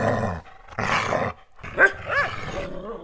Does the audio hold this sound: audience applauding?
no